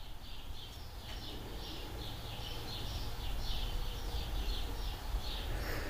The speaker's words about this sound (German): Im Hintergrund hört ihr die Vögel, die Katzen. Also die Vögel von draußen natürlich.